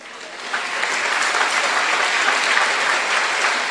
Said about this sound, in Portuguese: Vamos dar uma salva de palmas a Jesus.